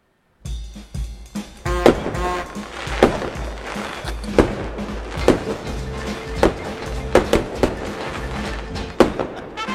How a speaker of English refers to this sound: We got the fireworks to celebrate. We're all ready to go. Honest to God, when I heard that first firework, I'm like kind of ducking these days.